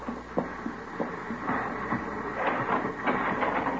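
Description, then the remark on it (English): A porter gives several sharp knocks on a train compartment door, unevenly spaced, to hand in an envelope, ringing out over a steady rumbling background of a moving train. No one speaks. “He's knocking at the door to that compartment, handing in the envelope.”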